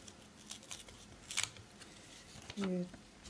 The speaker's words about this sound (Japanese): 手紙も入ってる。あ、ちょっと 封されてるな。開けれるかな。